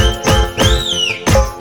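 A police constable's shrill whistle swoops up and then slides down in pitch over a steady beat of heavy, punchy drum hits in a lively music track. No voices are present.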